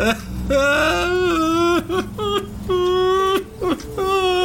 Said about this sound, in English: … broke down into sobs, shut his eyes as the tears streamed down.